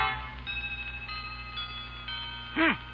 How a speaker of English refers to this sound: A chiming clock is heard as Grandma consults the old-fashioned watch dangling from a chain around her neck.